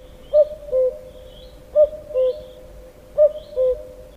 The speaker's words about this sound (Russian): Вот и кукушка. Помоги, кукушка, мне.